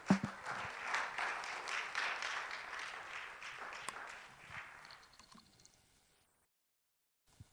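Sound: audience clapping hands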